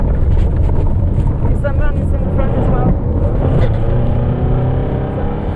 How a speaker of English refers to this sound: Der bliver råbt til chaufføren, at han skal køre alt, hvad han kan.